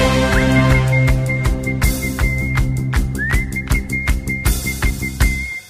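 Someone whistles a one-note song, a single repeated high note held steady with a brief upward slide, over a rhythmic musical backing with a bass line and percussive hits. No one speaks.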